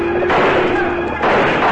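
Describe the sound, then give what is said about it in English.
A dense, continuous barrage of gunfire as Slagle's outlaw crew ambush the cowboys of the Rocking W trail herd heading for Longhorn Junction, loud and overlapping with no clear gaps between shots, forming a sustained crackling roar with a tonal hum running underneath. “Before Bob Kincaid can rally his men, Slagle and his outlaw crew sweep down with guns blazing, pouring a hail of lead at the surprised cowboys.”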